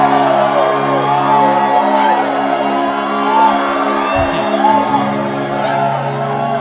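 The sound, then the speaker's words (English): A church audience shouts and cries out praise to God together in a loud, sustained wash, with overlapping whoops and calls over a steady low droning tone underneath. “Now lift your voice louder and give God praise.”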